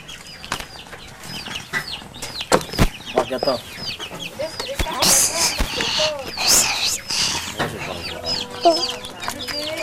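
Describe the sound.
Several chickens cluck and squawk in a busy, overlapping chorus, with bursts of flapping wings and scuffling midway through, and people talking in the background.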